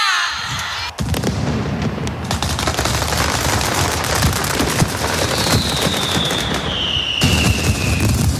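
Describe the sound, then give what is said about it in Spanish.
Mascletà firecrackers burst during the Fallas festival in Valencia, Spain, in a dense, rapid-fire barrage, loud and continuous like crackling gunfire, with a thin whistling tone gliding through partway, all without speech. “La mascleta, esa fiesta de petardos y de sonido que, más que un caos, es toda una sinfonía orquestada, que son los que no han ido a Valencia no lo pueden percibir ni aprender.”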